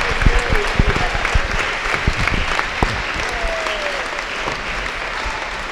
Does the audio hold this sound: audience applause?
yes